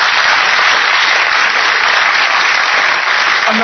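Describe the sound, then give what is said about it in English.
Steady, loud applause from an audience, a dense wash of many hands clapping that holds at an even level without letting up for the whole few seconds. “I'm not 100% sure whether people are applauding just because you might.”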